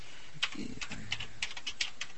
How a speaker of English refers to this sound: He's typing his password now. Yeah, listen closely to my keyboard, you can figure it out.